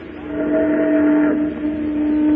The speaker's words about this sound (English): A steamboat.